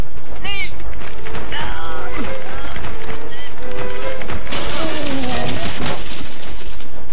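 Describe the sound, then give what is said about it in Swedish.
A loud, chaotic jumble of heavy wooden crates pushed over onto a man inside a fast-moving train, tumbling and crashing, with repeated thuds and clattering impacts over several seconds, faint voices mixed in beneath the din. “Okej, när han kommer tillbaks så knuffar vi de här lådorna över honom.”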